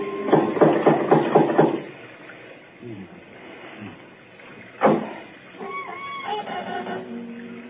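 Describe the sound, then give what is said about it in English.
A quick run of about eight sharp knocks from a metal door knocker, followed after a pause by one louder bang, and then a voice begins speaking. “There might at least be a knocker. Ah, got it.”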